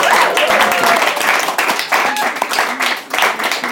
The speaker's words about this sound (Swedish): Alltså han hatar det här nu, men vi kan ge dem en halv applåd på något vis.